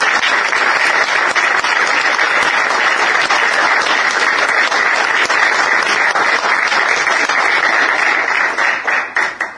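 An audience breaks into sustained, dense applause, many hands clapping in a steady loud wash for several seconds before it thins into scattered claps at the end.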